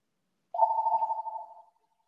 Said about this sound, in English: I promise you, my home phone never rings, ever. No one even has that number.